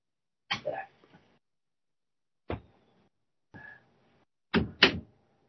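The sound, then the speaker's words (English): A door being shut: a few scattered clunks and rattles with quiet gaps between them, then a firm double thud as it closes. No one speaks. “Better shut the door.”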